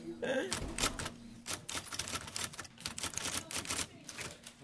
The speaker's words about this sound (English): Keystrokes, slugs hitting paper, these nearly extinct sounds are the daily soundtrack at Philly Typewriter.